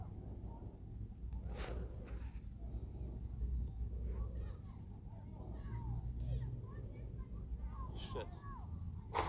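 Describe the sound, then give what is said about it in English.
Several sharp gunshot cracks go off at irregular intervals over a busy outdoor backdrop of children's voices, chirping birds and low traffic rumble. “It sounds like gunshots.”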